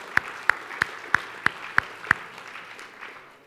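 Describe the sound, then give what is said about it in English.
Seven sharp, evenly spaced claps in a steady rhythm, ringing out clearly, then stopping and leaving only a soft background murmur. “Let's give a big clap and a prize.”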